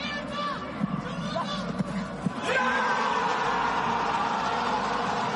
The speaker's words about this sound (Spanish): Celebración por todo lo alto, como escuchan, con muchos gritos, el de Piqué a la cámara de televisión, similar al que hizo Diego Armando Maradona en el Mundial del 94, y celebración por todo lo alto de toda la plantilla.